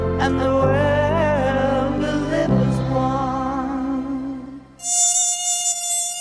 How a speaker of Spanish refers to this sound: Ojalá fuera música, pero no lo es, sino un zumbido impertinente que te avisa que vienen en ataque como peligrosos kamikazes. Son esos monstruos voladores a los que llamamos mosquitos.